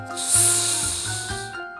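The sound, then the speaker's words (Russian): In a Russian speech lesson on pronouncing the sound "s", a voice holds a long, steady hissing "sss" for about a second and a half, imitating wind whistling outside a window, bright and airy, with soft low tones humming underneath. “На ветерок, который свистит за окном.”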